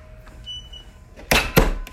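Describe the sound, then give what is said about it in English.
An old 1950s doorbell rings with two bright, harsh clangs in quick succession, the second a touch stronger, after a moment of faint tonal hum and quiet background. “Yeah, that's a very old doorbell, probably from the 50s or so.”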